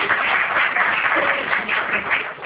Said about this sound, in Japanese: 今一度拍手をお願いします。